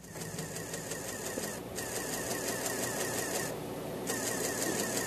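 A dot matrix printer buzzes steadily through lines of printing, its shrill mechanical rasp broken by two brief pauses as the head returns. It is fairly loud, with no voices.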